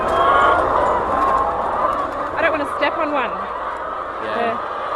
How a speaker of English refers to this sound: They're very confident. They're very used to human interaction, these birds, because we're in here quite a lot. These hens were raised in an aviary rearing system as well, one of the first in Australia